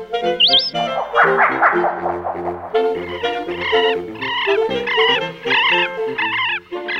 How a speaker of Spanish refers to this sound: El picaflor chico. Este melodioso trino pertenece a la segunda ave más pequeña de Chile. El picaflor chico mide 11 centímetros